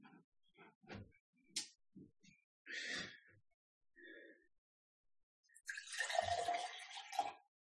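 Sounds of someone getting a drink of water: a few small clicks and handling taps, a breathy sip, then a longer, louder rushing gulp and exhale near the end.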